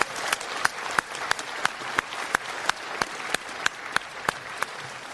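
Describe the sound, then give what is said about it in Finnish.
Steady audience applause at a Christian summer festival gathering, offered to Jesus: a dense wash of many hands clapping with a few sharper, regularly spaced claps standing out in rhythm, moderately loud and without any voices. “Ja nyt minä en tyydy aivan tuollaisen pieneen aplodiin.”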